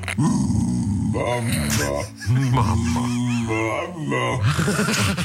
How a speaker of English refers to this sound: Mama. This dog just sits in a pub and says mama on demand for food.